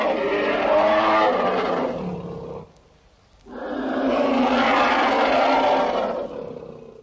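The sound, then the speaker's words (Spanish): A lion, of the kind bred for hunting in the lion court of the Prague Castle gardens, roars loudly in two long, rumbling bursts separated by a brief pause, with no voices present. “En el patio de los leones eran criados leopardos, panteras y leones, utilizados para la caza.”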